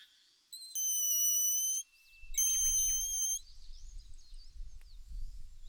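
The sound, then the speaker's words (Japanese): Two shrill, reedy whistles blown on a blade of foxtail grass used as a grass whistle, each held for about a second, with faint chirpy squeaks between and a low rumble of handling noise underneath. “スズメの鉄砲、 草笛です。”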